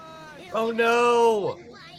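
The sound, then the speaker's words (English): A voice imitates a cat hacking up a hairball: one fairly loud, strained retching vocal lasting about a second, its pitch dropping sharply at the end. “It is like a forest down there, which I kind of like, even though I'm coughing up hairballs every now and again.”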